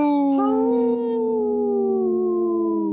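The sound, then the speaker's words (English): A single long wolf howl holds a steady, mournful tone that sags slightly in pitch over three seconds, loud and unbroken, with no talking over it. “Let's just howl.”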